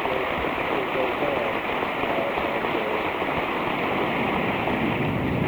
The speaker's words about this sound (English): First of a number of standing ovations during the President's address. Both Democrats and Republicans in this House chamber on their feet cheering and applauding, and the VIP invited spectators joining them.